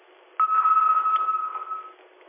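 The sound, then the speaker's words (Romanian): A telephone ringing: a single steady electronic tone at a mid-high pitch that holds for about a second and a half, then stops. It is fairly loud and sounds alone, with no talking. “Stai că sună un telefon, dar nu-i răspund.”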